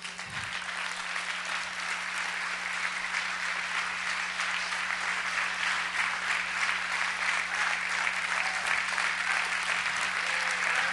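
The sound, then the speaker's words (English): Sustained applause from an audience, a dense, steady wash of many hands clapping at an even loudness for about eleven seconds, with a faint low hum underneath and no one speaking. “And then, if you could just hold your applause.”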